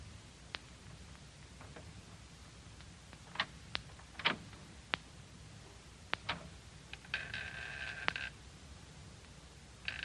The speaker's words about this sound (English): And thank heaven you remember the number to dial and make those phones ring.